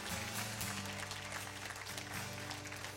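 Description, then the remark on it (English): A crowd claps steadily as a hand clap of praise to God, a dense, continuous wash of many hands that stays loud for the whole stretch, with low sustained musical notes playing underneath. “Somebody give God a hand clap of praise for acceptance.”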